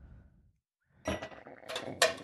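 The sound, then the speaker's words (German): Four ice cubes clatter into a mixing glass one after another, for a Manhattan cocktail, each drop a bright, sharp clink with a hard rattle, the later ones louder, after a short quiet start. “So, das waren 4 Eiswürfel in einem Rührglas.”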